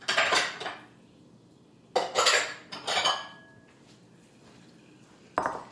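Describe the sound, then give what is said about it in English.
A metal pot clanks and scrapes against a bowl in several short bursts while boiling hot simple syrup is poured out to cool, with a final sharp clink after a brief pause, moderately loud, no talking. “And now we need to pour this into a bowl just to cool it down quicker.”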